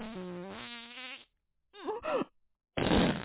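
fart

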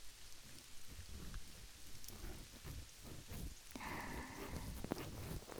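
rain falling

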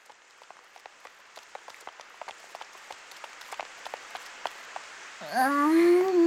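sudden rain shower

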